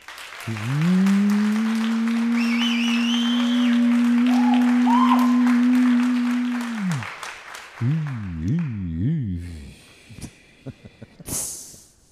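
An audience claps for an engaged couple, measured by an applause meter, steadily for about seven seconds under a loud, sustained droning tone, then the clapping thins out as a few wavering, rising-and-falling tones and scattered claps follow.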